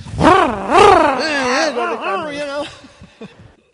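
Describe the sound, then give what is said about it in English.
A voice imitates a chainsaw, a buzzing, revving hum that swoops up and down in several loud surges before trailing off into softer, breathy sputters. “You know, he sees a tree and then when he sees a tree he goes chainsaw.”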